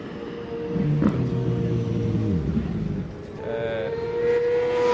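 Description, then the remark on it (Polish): Tomek, a team-mate of Piotrek, rides past on the same kind of motorcycle. Its characteristic low engine rumble is loud and steady, the pitch sliding down as it goes by, before another throaty engine note rises near the end. “Tutaj jedzie Tomek, kolega z zespołu Piotrka, na takim samym motocyklu. One mają taki charakterystyczny niski dźwięk.”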